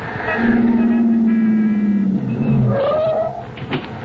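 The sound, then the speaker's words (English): A taxi cab's engine rumbles on a street, its droning pitch sliding down and then rising as the cab pulls up, before the noise settles near the end. “Desperately, you look up and down the street. Cabby! Cabby!”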